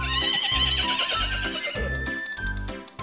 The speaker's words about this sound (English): Horse.